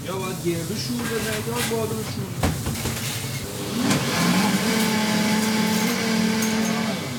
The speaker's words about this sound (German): schnappt sich den Mixer, Olivenöl und andere Zutaten und führt kurz vor, wie man Pesto zubereitet.